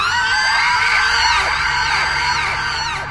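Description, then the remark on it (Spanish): A loud, piercing shriek from high above on a quiet street holds for about three seconds, its harsh high pitch wavering slightly before fading a little at the end. No one speaks. “Un horrible alarido desde lo alto rompió el silencio de la calle.”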